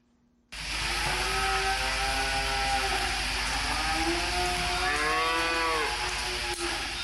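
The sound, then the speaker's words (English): A rancher's herd of 45 cattle moo loudly and repeatedly along the banks of the River Vina in Goundary, Adamawa region, Cameroon, long drawn-out lowing calls overlapping one another, over a steady rumbling background noise with no talking. “Cattle rancher Musa Ibrahima has settled with his family and 45 cows along the banks of the River Vina in Goundary in the Adamawa region of Cameroon.”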